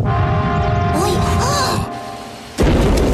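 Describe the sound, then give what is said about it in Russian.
A heavy Russian oven, stuffed with a tub of dough, rattles and rumbles with a low shaking roar and faint whistling as dough oozes from under its damper. It goes briefly quiet, then the oven damper bursts open with a single loud crash and the tub flies out. “Заслонка с грохотом распахнулась, и кадушка вылетела из печи.”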